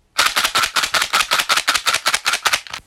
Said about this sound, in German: Der Vorhang geht zu und es ertönt ein lauter Applaus. Das Publikum klatscht in die Hände. Einige stampfen mit den Füßen auf den Boden.